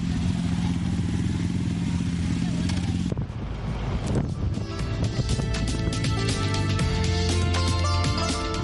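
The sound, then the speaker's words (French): A motorcycle engine rumbles steadily, then shifts into a busier, clattering roar with gusts of wind noise and muffled voices talking in the background. “Le principal argument, la moto, c'est la liberté.”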